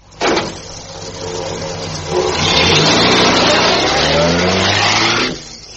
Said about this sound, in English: And the taxi went on and left us there.